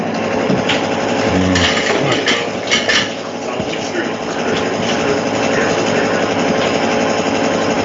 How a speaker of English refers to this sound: I love it when the jackhammer kicks in.